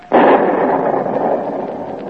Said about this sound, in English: 1776. Shots heard round the world. The boom of the cannon of independence echoes and re-echoes in every hamlet and pioneer America, every capital of Europe.